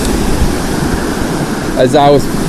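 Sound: fast-flowing river water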